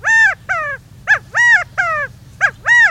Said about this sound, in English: An Australian laughing kookaburra guffaws in the depths of the Florida Everglades, startling a lost pair of escaped convicts.